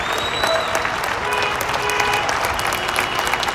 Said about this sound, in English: People are being ordered to stay at home for 2 weeks. But every day, at 8 o'clock in the evening, people come out of their homes and applaud.